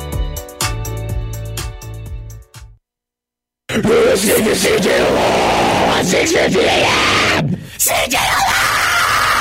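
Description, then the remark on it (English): A brief burst of music cuts to a moment of silence, then a loud, raw scream erupts and holds for several seconds, harsh and strained, with a short break near the end; a station sound effect on radio station CJLO. “Hope you just enjoyed that scream in your ear.”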